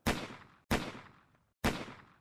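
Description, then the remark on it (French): Three loud gunshots ring out at uneven intervals in a corridor behind a varnished door, each a sharp, booming crack followed by a long, fading decay. No voices are heard between the shots. “Il y a des cris, puis cinq détonations, puis un bruit de chute.”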